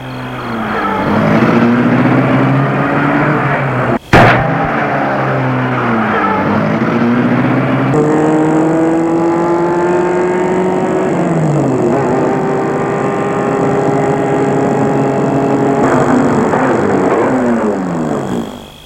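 A car engine is started and runs loudly and steadily as the car drives off, its pitch climbing and dropping as it revs and accelerates through gears, with a brief abrupt break early on. No one speaks.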